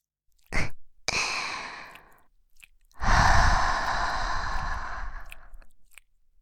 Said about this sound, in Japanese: このまま甘々とろっとろのエロい耳なめで脳みそを犯しまくってあげちゃおっかな。